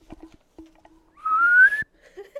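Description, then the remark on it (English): A person whistles a single loud, rising, squeaky note lasting about half a second, imitating a dolphin's call, with faint knocks and background noise before and after. “Dolphin, what would your whistle sound like?”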